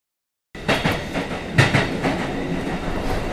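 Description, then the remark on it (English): A train rolls along the rails with a loud, steady rumble, punctuated by rhythmic clickety-clack beats as the wheels pass over track joints, with no voices. “I go to school by train.”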